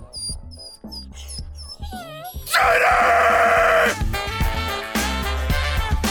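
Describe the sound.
A dog named Sadie whimpers in a series of thin, high-pitched gliding whines, then a person shouts loudly over it and the scene stays noisy.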